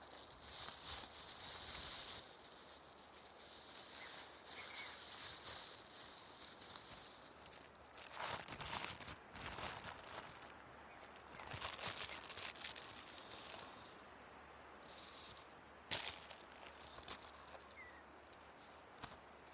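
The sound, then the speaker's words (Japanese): Crisp, crackling plastic crinkles from a potato chip bag being opened and handled at an outdoor cherry blossom viewing picnic, coming in irregular bursts over nearly twenty seconds with a few sharper pops and no voices. “途中で買ってきたポテチとコーラがあるから食べよ。”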